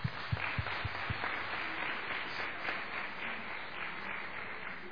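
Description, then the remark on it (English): An audience applauds the choir from the Tonga Fellowship in a steady, dense patter of many hands clapping, with a few sharper individual claps standing out at the start before the clapping continues evenly throughout. “So from behalf of me to my choir, I would have liked to applaud you and thank you for the job well done.”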